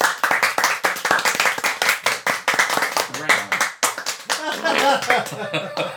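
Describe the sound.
A small group claps steadily and close by, a rapid, dense patter of hands with some cheering voices rising toward the end.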